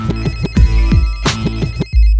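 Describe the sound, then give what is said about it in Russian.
A telephone rings with a bright, repeating electronic ringtone melody, loud, cycling through several quick tonal bursts before cutting off abruptly near the end. “Слышь, еще раз ты позвонишь, я тебе как набью. У меня телефон определил, я его тебе найду.”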